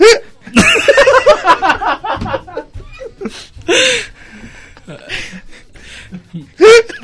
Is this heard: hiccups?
yes